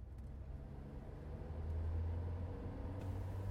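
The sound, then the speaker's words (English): A steady, low Rolls-Royce car engine hum purrs along continuously as the car drives towards Heathrow Airport, swelling slightly louder midway and holding there, with no voices over it. “They were in a Rolls-Royce, purring towards Heathrow Airport.”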